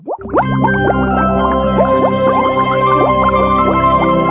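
Continuous bubbling liquid, with many quick rising blips popping in dense succession, loud, no voices, like a steady stream of bubbles gurgling up through water.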